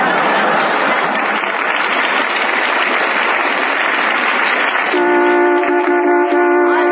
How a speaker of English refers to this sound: Hey, hi, what's this? Somebody parking their car right in the studio? Oh, relax, Bob. This isn't a real car. It was just a sound effect to remind everybody about Lever Brothers' big new contest.